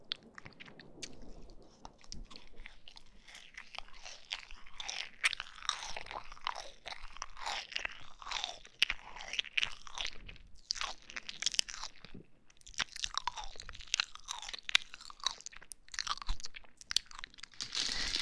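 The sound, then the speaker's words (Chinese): Chewing of marshmallows: steady, sticky mouth sounds with soft crunchy clicks and smacks repeating for the whole stretch, fairly quiet and intimate, with no one talking. “慢慢吃啊，你看啊，同样一个棉花糖，我要嚼好多口， 你都叫了一两口就没有了，不要这么吃啊！”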